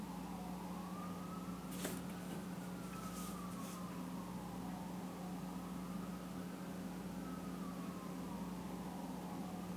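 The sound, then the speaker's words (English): Emergency vehicle sirens pass outside, wailing in slow rising and falling sweeps, steady, over a constant low engine-like hum with a few brief clanks near the start. “There's some sirens again. The COVID sirens are back.”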